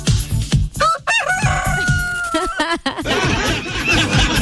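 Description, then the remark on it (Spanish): A rooster crows loudly: a few sharp rising notes break into one long, steady, held call that drops off abruptly, followed by scratchy clucking and chatter. “Vendo un gallito muy puntual, poco uso, dice. A ver ese gallito, a ver ese gallito.”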